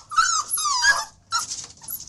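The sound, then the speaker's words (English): A dog whimpers and whines in two high, wavering bursts, fairly loud, with a brief pause between them and faint rough scraping underneath as it scratches at a door. “What is that I hear scratching at my door?”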